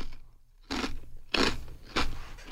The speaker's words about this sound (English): Sorry, I'm eating a little bit more.